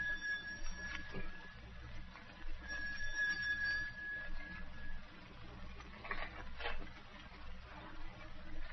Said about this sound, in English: I drove over to his house that night, walked the door, rang the bell.